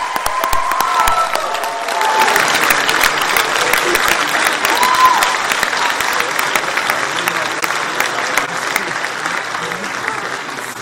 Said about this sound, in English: Let's have a big round of applause for the class of 2016.